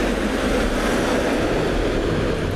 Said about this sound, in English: Okay then, so now we have a dustbin lorry going by.